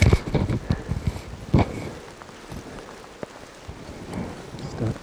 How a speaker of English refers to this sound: It's raining quite strongly here.